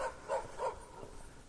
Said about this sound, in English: Listen to the dogs.